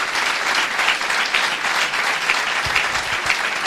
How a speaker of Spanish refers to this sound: Yo sé que ellos lo hacen todo para la gloria del Señor, pero os pediría un aplauso en gratitud por nuestros hermanos.